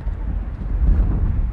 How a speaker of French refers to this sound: Vous entendez le vent derrière.